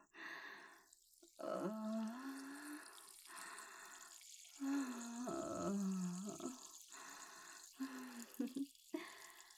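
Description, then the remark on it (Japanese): A steady stream of liquid, simulated urination by a standing woman, splashes for nearly ten seconds, a continuous hiss broken by brief pauses, with low voiced tones rising and falling over it. “ご褒美にお姉さんの聖水をあげる。ほら行くわよ。ありがたく受け止めなさい。出る。”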